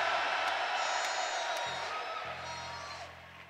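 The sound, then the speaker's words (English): A large audience screams and cheers in a loud, sustained roar that fills the whole stretch, easing slightly toward the end while a low, steady musical tone hums underneath. “Come on, scream like your voice is yours and thank God.”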